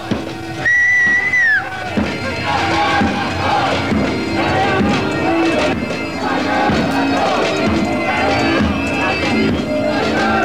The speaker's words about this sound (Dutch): Een groep zwaar uitgedosten, allemaal in het zwart. Ze schreeuwen, krakers gaat door, krakers gaat door. Een hoop protest.